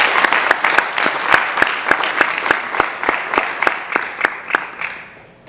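A crowd applauds with dense, steady clapping, a few sharp claps standing out in a quick rhythm, then it thins and fades near the end. No one speaks.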